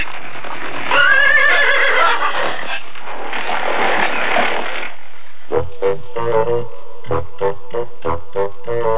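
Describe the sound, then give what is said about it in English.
A horse gives a loud, drawn-out whinny, then its hooves break into a quick, rhythmic gallop of heavy thuds as it runs off. No one speaks. “Now go, horse, go.”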